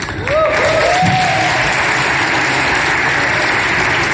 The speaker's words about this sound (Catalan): S'està acabant, hi ha aplaudiments.